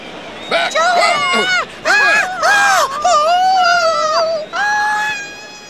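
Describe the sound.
A crowd of fans screams and cheers loudly, many high-pitched shrieking voices overlapping in swooping wails, rising and falling in several sustained bursts with brief dips between them.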